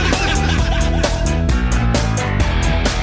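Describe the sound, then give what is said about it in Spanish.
Loud, rapid duck quack sound effects repeat in a steady rhythm, set against a punchy, busy backing that sounds like a music bed, without pause for about three seconds. “Van a caer los cuac asados.”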